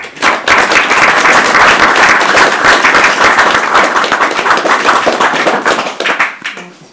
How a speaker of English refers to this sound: and I'd like you to give a big round of applause